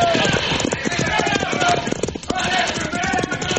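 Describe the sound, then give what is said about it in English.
Horses gallop away with riders fleeing on horseback, a steady, rapid drumming of hoofbeats, loud and dense throughout, with a brief dip in the pounding just past the midpoint before it resumes at full strength. “Now, Pancho, run for your horse.”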